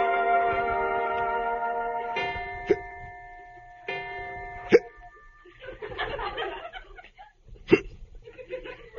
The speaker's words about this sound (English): do you have the hiccups? No.